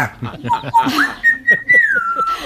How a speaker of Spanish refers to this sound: Y ahora, el loro Yaco.